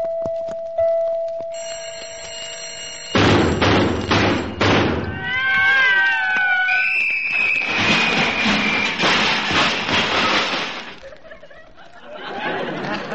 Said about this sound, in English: I'm a little disappointed with that alarm clock you gave me last Christmas. That was a very good alarm clock. What's wrong with it? What's wrong with it? I'll show you. Listen.